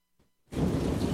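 After a brief hush, a heavy downpour crashes in loudly with a deep rumbling undertone, like a thunderstorm with pounding rain, sustained.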